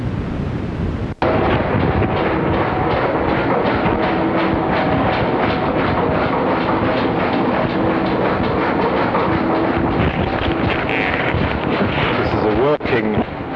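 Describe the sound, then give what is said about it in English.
A stationary diesel engine runs steadily and loudly, its dense rumbling roar carrying a fast, regular chugging beat and faint humming tones throughout, broken by a brief dropout early on. “Stationary engine, a diesel engine, I think.”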